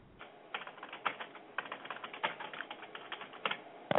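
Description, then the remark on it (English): Rapid clicking of keys on a computer keyboard, an irregular stream of light taps with a few harder strikes, steady throughout, with no voices. “What are you typing? I can hear you typing away.”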